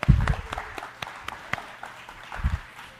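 A brief, sparse round of applause: scattered, uneven hand claps ring out one after another over a low murmur, with a couple of dull thumps and no one speaking.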